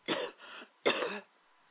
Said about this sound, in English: Go ahead and cough it out. It's right there.